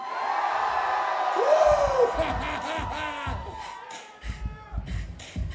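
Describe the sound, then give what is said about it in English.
A crowd screams and cheers in a loud, sustained roar, with rising whoops and shouting voices cutting through the noise. “Does everybody scream?”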